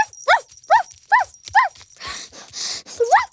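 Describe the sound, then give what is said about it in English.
A sheepdog barks four times in a quick, steady rhythm, fairly loud, followed by a couple of rough, breathy huffs and one last rising bark. “good girl, use your bark.”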